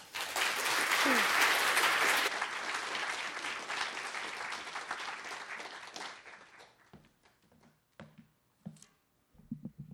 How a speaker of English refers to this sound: Let's give a round of applause to our first reader